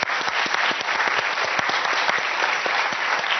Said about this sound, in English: So everyone, a round of applause about that.